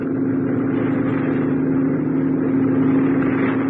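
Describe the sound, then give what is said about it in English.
A water patrol boat's motor runs at a steady, loud drone with a deep, even hum, holding constant throughout without any voices. “It took me longer to get organized, and I set off for the water patrol boats only the morning after.”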